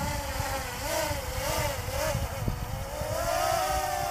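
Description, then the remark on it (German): Small drone propellers buzz steadily with a wavering, whining pitch that dips and swells, then climb higher toward the end as the landed drone is held in a hand and given full throttle again, loud and continuous with no voices. “Da hält sie die Drohne in der Hand und er gibt nochmal Vollgas.”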